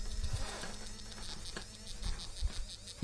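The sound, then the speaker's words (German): An obstacle sensor device vibrating strongly as it is moved slightly away from an obstacle, a steady insect-like buzz with quick rhythmic pulses running through it, continuous for a few seconds with no voices. “Entferne ich mich wieder etwas davon, vibriert es heftig.”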